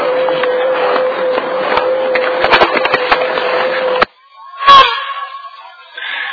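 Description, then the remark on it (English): A woman knocks a few sharp times on the wooden door of a home, clustered midway, rising out of a loud, hissy wash with a steady hum. Then the noise cuts off abruptly, followed by a brief, sudden burst of sound. “And this woman walked up and knocked on the door.”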